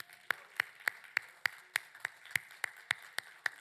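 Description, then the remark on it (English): Steady, evenly paced hand clapping as a praise clap to God after worship, about a dozen sharp claps in quick succession, moderately loud over a faint sustained tone, with no one talking. “You watching us at home, and I know you're joining in with worship, but let's just take just a moment, and you, right there where you are, let's just give God a praise clap.”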